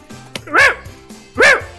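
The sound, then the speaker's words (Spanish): A dog barks twice, loud, with a short pause between the two sharp, strained barks and no one talking. “Es decir, ya alguna vez los perritos, que los pobres, pues eso, ¿no? Están, les duele, o sea, son ladridos de dolor.”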